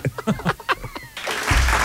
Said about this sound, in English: Thank you. Like the pause before the applause. Will this crowd applaud? Yes, we will.